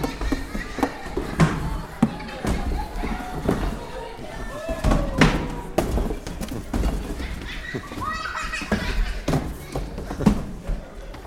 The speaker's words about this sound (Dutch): Snel haalde Olifant zijn hamer uit de schuur en sloeg zo hard als hij kan tegen de muur. En nog eens, en nog eens.